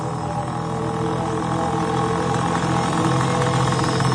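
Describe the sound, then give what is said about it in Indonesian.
An old Vespa scooter engine runs steadily while being ridden toward a bridge, a continuous buzzing drone with a low throbbing hum and no voices over it. “Aku lanjut melanjutkan motor Vespaku ini menuju sebuah jembatan. Motor tua ini memang agak sedikit manja.”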